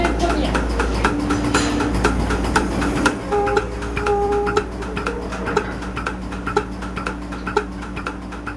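A milking machine pulsator clicks in a steady, quick rhythm over a low mechanical hum as a cow is milked, its membrane massaging the teats; the sharp regular pulses continue throughout.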